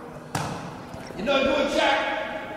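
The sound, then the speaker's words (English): A single sharp clang-like thump as Shaq's shot from the line goes long, comes short and hits the front of the basketball rim, fairly loud, followed by voices rising in the background. “Shoots long, comes short. Hit the rim. Is that just the right expression? Just hit the front of the rim.”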